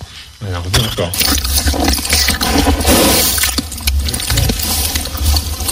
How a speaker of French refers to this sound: Non, alors c'est un cheval qui fait caca.